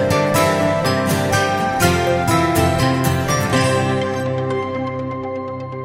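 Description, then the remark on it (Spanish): A brief instrumental radio music bumper on a Spanish radio program, played before a telephone interview, full and steady with rhythmic percussive accents, playing alone for about six seconds before gently thinning out at the end. “Tenemos ya al delegado de Misiones al teléfono, una rafaguita y hablamos con él.”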